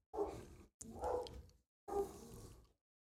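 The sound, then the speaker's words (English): Three drawn-out, throaty dog barks come one after another with short pauses between them, loud, with no talking over them. “of course they're still barking”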